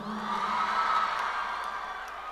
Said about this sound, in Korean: 아니 이제 박수까지.